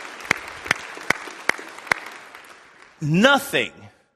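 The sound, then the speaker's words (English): An audience applauds six children who prayed to receive Jesus Christ as their Savior at Vacation Bible School, with five sharp, evenly spaced claps standing out over a softer patter that gradually fades. A voice then speaks briefly at the end. “Yes, let's applaud that.”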